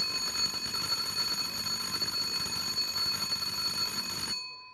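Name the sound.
alarm ringing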